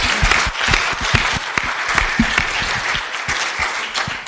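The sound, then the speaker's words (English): A crowd at a panel discussion applauds the founding members steadily, many hands clapping in a dense, sustained patter with scattered sharper claps, loud throughout with no voices standing out. “I think that we need to give them another big round of applause for the work you've done.”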